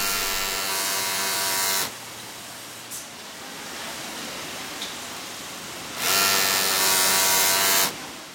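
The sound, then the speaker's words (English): Sewing machines buzz in a garment factory in steady two-second bursts, a loud, bright motor whir, separated by a quieter stretch of background factory hum with a couple of faint clicks. “Bill says this factory's got a very efficient buzz.”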